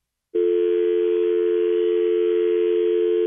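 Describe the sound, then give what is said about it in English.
After a split second of silence, the dial tone of an old-style landline telephone starts abruptly after the call is hung up and holds as a loud, steady, unbroken hum to the end, with no voices. “he's calling from like one of those old style landlines, right? Like the dial tone came in at the end”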